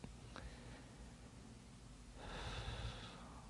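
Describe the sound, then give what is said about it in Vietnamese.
A single soft, breathy exhale through the mouth while bowing down in prostration, lasting about a second against a faint low background hum. “Và khi lạy xuống là mình thở nhẹ bằng miệng.”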